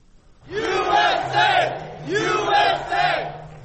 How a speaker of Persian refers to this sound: شادمانی هواداران دونالد ترامپ در لحظه‌ای که رسانه‌ها نتیجه غیر رسمی انتخابات آمریکا را اعلان کردند.